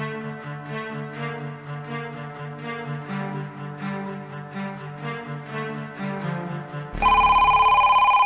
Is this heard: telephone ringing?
yes